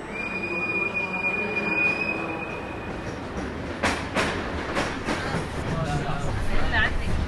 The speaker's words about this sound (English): I'm finally boarding one of the trains out of Budapest. It's supposed to go to Vienna or to the border. Just a surge of humanity to get on it.